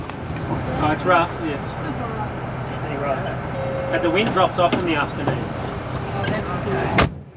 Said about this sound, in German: Wir fahren mit dem Bus über die Insel. Vorbei am Industriehafen, wo Autos, Kühlschränke und andere Lieferungen vom Festland ankommen. Wir passieren den Friedhof, die Schule und einen Supermarkt.